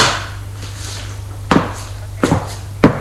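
A man shuts a door with a few short knocks and thuds, three sharp wooden impacts spaced unevenly over a low steady hum, moderately loud, with no one talking.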